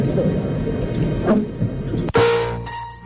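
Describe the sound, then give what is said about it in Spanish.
A single sharp gunshot bursts out in the chamber of the Spanish Congress of Deputies on 23 February 1981, over a steady low murmur of voices and hum, its crack trailing off into a brief ringing decay. “Y ahora los disparos.”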